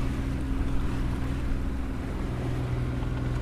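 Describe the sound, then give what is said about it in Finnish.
A boat engine drones steadily as the boat cruises bow into a westerly headwind between skerries and islands on the open sea toward Haapasaari, its low hum mixed with broad rushing wind and water noise, a continuous, even roar throughout with no voices. “Ja keula on kohti tuulta, vasta tuulta. Tuulet ovat kääntyneet läntisiksi. Ja tässä ajelemme luotojen ja saarten välistä aika lailla täällä ulkomerellä.”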